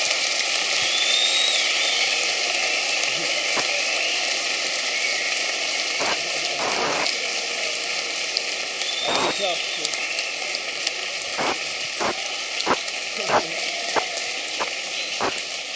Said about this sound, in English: We'd like to thank you, Michael Fossum in space, with a big, loud applause from the Hochtaunerschule in Oberursel.